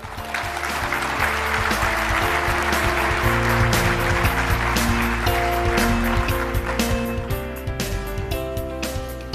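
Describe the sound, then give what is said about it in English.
A crowd applauds steadily and loudly for several seconds, a dense wash of clapping, with sustained musical tones playing underneath throughout, as a speaker comes up to introduce a conference's morning plenary session. “Let us give her a round of applause as she comes up.”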